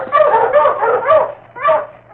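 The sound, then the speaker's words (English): Several husky sled dogs on a trail bark and whimper in a quick, excited run of yelps and cries, with a brief pause before another burst of whining barks. “Ho, you huskies!”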